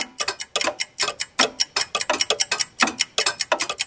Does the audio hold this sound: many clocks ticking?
yes